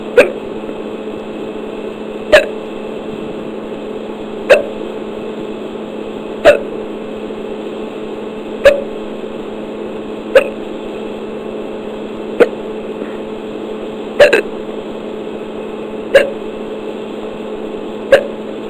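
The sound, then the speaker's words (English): A person hiccups about ten times, each sharp little hic landing roughly every two seconds in a steady rhythm, over a low background hum, with no talking. “I tried holding my breath, and the hiccups stopped for about 5 minutes, but now they started up again.”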